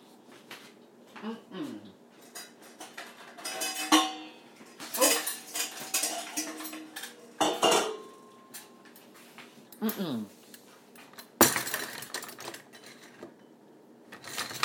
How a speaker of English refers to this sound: Right. So, put the cutlery away.